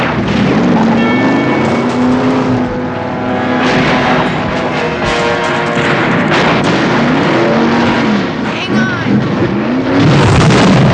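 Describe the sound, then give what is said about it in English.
A rear-wheel drive car's engine roars and revs continuously as it spins in place with the parking brake up, its pitch rising and falling in waves, with gritty, screeching tire noise and loud mechanical clatter throughout. “How does that hold that steady spin if it's rear-wheel drive?”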